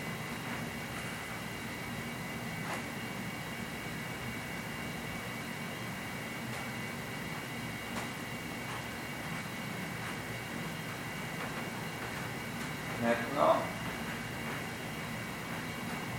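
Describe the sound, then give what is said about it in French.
A distant airplane drones steadily overhead, a low, continuous roar that stays faint and even throughout, with a brief slight swell near the end and no voices. “j'écoutais les bruits de très loin distant, de très très loin, essayer d'écouter le bruit des avions, des bruits de train, des bruits des voitures, de très loin.”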